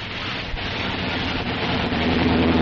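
A car engine drones steadily with a broad rumbling hiss as the car is pulled a bit off the road to park, growing slightly louder as it moves, and a faint higher whine appears near the end. No one speaks.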